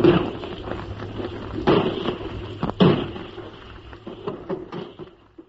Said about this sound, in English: In this barrage, we've got our 4.2-inch mortars, our field guns, our medium guns, all the guns of the fleet. The shells are whistling overhead now. Just listen to them.